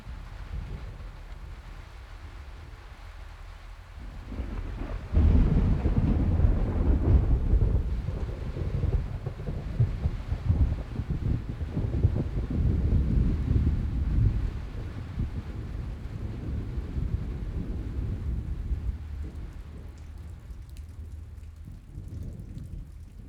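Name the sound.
thunderstorm with heavy rain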